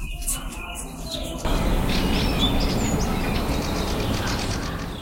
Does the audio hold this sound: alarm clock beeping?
no